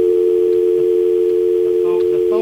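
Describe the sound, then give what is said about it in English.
A steady, unbroken telephone dial tone on a dead, broken phone line hums loudly for the whole stretch, with faint scattered background noises flickering beneath it near the end. “Sounds like it's dead. Yes, it does. Yes, it's dead. It's broken.”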